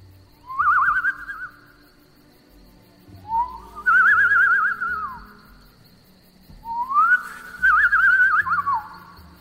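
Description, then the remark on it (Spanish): A hunter whistles through pursed lips in imitation of a birdcall to attract the attention of prey, a deer: three separate warbling phrases with trills, fairly loud over a faint low rumble, and no talking. “Juntaba sus labios y emitía un ligero silbido que imitaba el de un pájaro, para de esa forma llamar la atención de su presa.”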